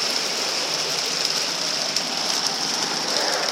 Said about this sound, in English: wow. That's the rain hitting the trees. My Lord.